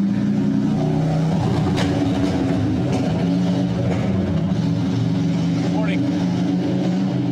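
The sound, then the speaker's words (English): A loud motorcycle engine roars, a steady, throaty rumble filling the whole stretch, while a person briefly speaks over the noise. “Oh, loud motorcycle,”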